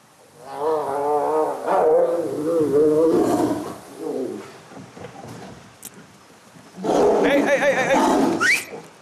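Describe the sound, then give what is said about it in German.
Tigers play-fighting growl and roar in two loud, snarling bursts, the first long and rumbling, then a brief lull before a harsher, sharper flare-up of roaring as the play briefly turns serious. “Das war jetzt erst Spiel und dann wurde aus Spiel mal ganz schnell kurz ernst, aber nichts Schlimmes.”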